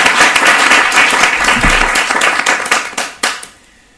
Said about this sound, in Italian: Io farei un bellissimo applauso a Lorenzo Sartori.